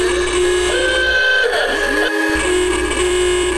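Loud car horns blare in a long, continuous honk, several overlapping tones held steady for a few seconds, with no voices.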